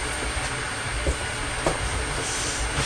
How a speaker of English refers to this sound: Mummy's just turned the kettle on. Can you hear it? Hey. Yes, to make some tea. I'm going to have a cup of tea.